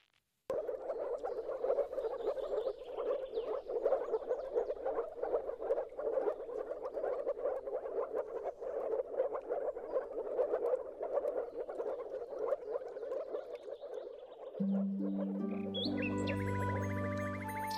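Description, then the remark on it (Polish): A dense chorus of moor frogs calling, soft bubbling notes overlapping continuously at a steady moderate level, with no voices; near the end, music fades in over the frogs. “Właśnie, tak więc proszę się skupić, zamknąć oczy i posłuchać przepiękny głos żab moczarowych.”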